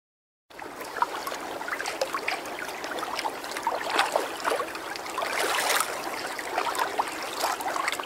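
A large river flows steadily, a continuous rushing babble with bright splashes and gurgles rising and falling throughout, and no voices.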